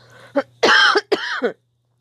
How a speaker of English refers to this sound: Sorry, I'm not sure exactly why I keep coughing, but hopefully it'll get better here and isn't too distracting.